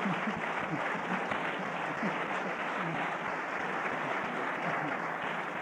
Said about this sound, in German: dafür tosenden Applaus bekommt, dass er sagt, das Strafrecht und das geltende traditionelle Prozessrecht, wie es inzwischen geworden ist, sei ausreichend, brauche nicht noch mehr verschärft zu werden.